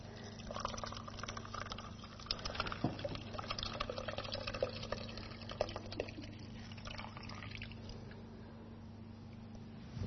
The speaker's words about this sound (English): And how about you be the person that pours the water on? Just pour it in. That's it.